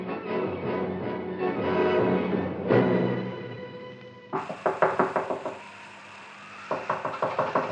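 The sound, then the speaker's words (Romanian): Rapid, urgent knocking on the wooden door of Uncle Tom's cabin in the dead of night comes in two hurried bursts of sharp, loud raps, following a stretch of sustained droning tones with no one speaking. “Dar peste vreo jumătate de ceas, bătăi grăbite și desnădăjduite răsunau în ușa colibii unchiului Tom.”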